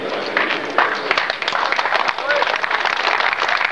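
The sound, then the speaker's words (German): An audience applauds, a dense, steady crackle of many hands clapping that holds at an even, fairly loud level for a few seconds without letting up. “Ich entnehme Ihrem Beifall Zustimmung.”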